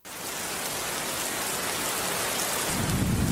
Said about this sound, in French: Bamako s'est réveillé sous la pluie et comme on l'a dit après le beau temps, bonjour les dégâts.